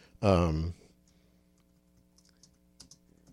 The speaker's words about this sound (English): Let's see here. I'm just typing and I don't type and talk at the same time very well.